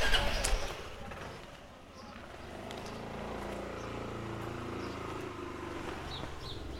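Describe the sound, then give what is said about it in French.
A motorcycle engine starts up after a short loud burst, then settles into a low, steady rumbling idle with a buzzing hum that wavers slightly in pitch, as Emilio starts the motorcycle and Virginia climbs on behind him. “Emilio a démarré la moto.”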